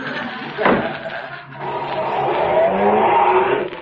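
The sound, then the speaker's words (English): A delivery truck's engine rumbles and revs, its pitch rising steadily as it pulls away after a brief thump near the start. Loud, with no voices. “You want a lift to my delivery truck?”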